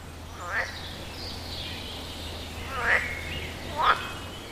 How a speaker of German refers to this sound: Ferne Frösche quaken ihr Abendlied.